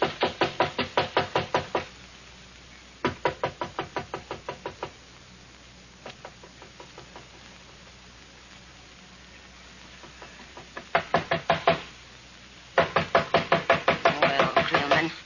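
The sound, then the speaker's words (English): Loud, rapid knocking on a door comes in several insistent bursts of many quick raps each, separated by short pauses, with a faint background hum and no talking. “Can't let them knock all night.”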